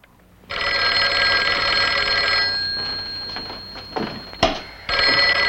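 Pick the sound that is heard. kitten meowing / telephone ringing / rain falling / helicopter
telephone ringing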